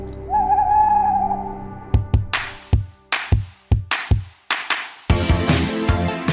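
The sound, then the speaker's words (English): A sustained, owl-like hoot opens, then a run of sharp percussive hits in an uneven rhythm, ending in a dense, loud burst of sound. No one speaks. “The following podcast is a member of the Great Big Owl family.”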